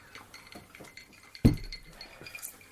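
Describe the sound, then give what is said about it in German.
A single bright clink of filled drinking glasses touched together in a toast in the evening, sharp, with a short ringing tail over faint background clatter. “Haben vielleicht zum letzten Mal, zumindest für den Podcast, unsere Gläser gefüllt. Wir sagen nochmal Prost. Wohl, Prost, genau.”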